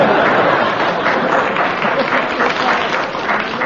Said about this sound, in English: That applause should be enough to please you.